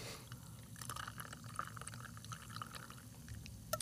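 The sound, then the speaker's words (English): A cocktail with cilantro and jalapeno is poured steadily over ice for a few seconds, splashing and trickling with faint clinks and crackles, ending with a small sharp click. No one speaks. “And then put it over ice for you.”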